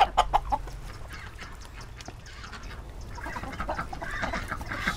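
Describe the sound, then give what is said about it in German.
Five hens cluck and chatter, with a few sharper calls at the start and a steady busy murmur of clucking continuing throughout, no voices. “hat inzwischen 5 Hühner und die essen ganz besonders gerne Nudeln mit Rucola.”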